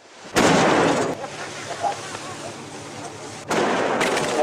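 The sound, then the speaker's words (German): A barbed harpoon cannon with an explosive warhead, loaded by two harpooners on the foredeck of a whaling ship, fires twice at the water, about three seconds apart. Each shot is a loud blast that leaves a long rushing roar, with a lower rumble lingering between the shots. “Auf dem Vorderdeck der Toshimaru Nummer 25 laden zwei Harpuniere eine widerhakengesäumte Harpunenkanone, richten sie aufs Wasser und feuern.”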